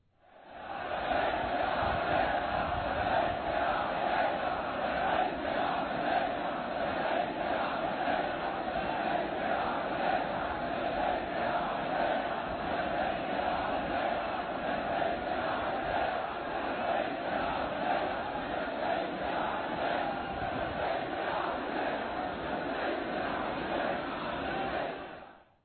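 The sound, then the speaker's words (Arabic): A dense, packed crowd of pilgrims pushing and pressing together roars continuously for the whole stretch, countless voices shouting and chanting together at a steady, loud level with no pauses and no single clear speaker. “لاحظتم السيارات إن واقفة إنها تعيق الطريق أمام الزوار، وتكون سببا في زيادة الضغط بين الجماهير.”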